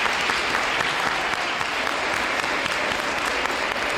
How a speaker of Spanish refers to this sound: Un aplauso a ese mensaje, por favor.